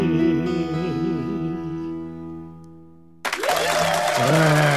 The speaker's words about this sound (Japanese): 自分で拍手を入れるこの今日この頃